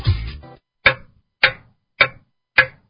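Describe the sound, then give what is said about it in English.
A clock ticks loudly, four crisp, evenly spaced ticks following a brief, busier rattling sound at the start, with nothing else in the background. “Hurry, time is ticking.”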